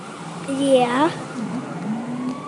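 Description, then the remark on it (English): A passing ambulance's rumble carries a siren whose rising, harmonic-rich wail sweeps up briefly, then settles into a fainter, steadier tone as it goes by during an on-location broadcast. “It's an ambulance.”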